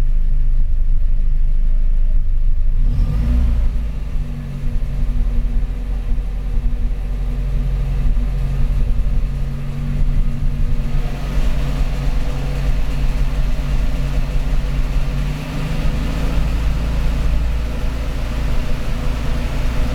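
A car engine drones steadily while driving, its pitch rising and falling as it revs through the gears, with a constant low rumble underneath and no voices.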